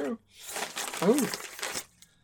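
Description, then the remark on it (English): Crisp crinkling and rustling of a white sheet of paper being handled and unfolded to unwrap a figurine, with a brief tearing edge, lasting about two seconds, while a voice murmurs briefly partway through. “It's wrapped up in a white sheet. A sheet of white paper.”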